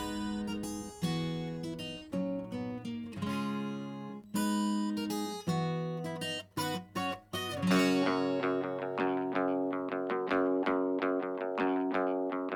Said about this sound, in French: Avec cette formation, il produit un hard rock progressif mélodique et accessible, comme le prouve cet extrait de leur premier album